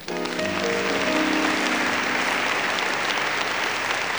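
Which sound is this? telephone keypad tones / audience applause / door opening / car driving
audience applause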